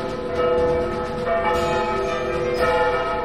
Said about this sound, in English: Are those church bells? Is that the bells?